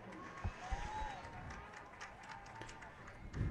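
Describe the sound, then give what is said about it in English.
Crowd applause at a football game as the starting defense for North Central is announced, a steady wash of clapping and cheering with scattered louder bursts, plus a couple of faint rising whistle-like tones drifting through the noise. “And you can hear the applause.”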